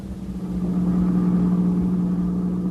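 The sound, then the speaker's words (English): A car engine hums steadily while driving, a low continuous drone with a strong tonal rumble that stays even throughout, with no voices present. “To get out for a while and sit back in a swell car and relax.”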